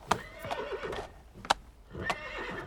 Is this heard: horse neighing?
yes